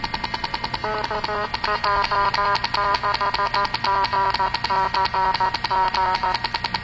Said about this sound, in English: So on top of that, if I push a button on the IME, you'll hear the IME Morse out my call sign, and you should see the screen flash as well.